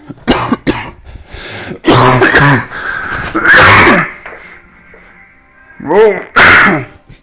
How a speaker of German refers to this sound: So ein morgendlicher Hustenanfall, weil man irgendwie schon wieder ein Katzenhaar im Hals hat.